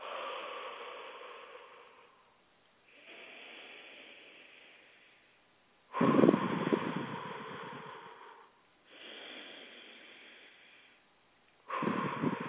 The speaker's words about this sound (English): We're going to start with some breath work, and I'm going to explain to you how to do that. You're going to be breathing in through your nose and out through your mouth.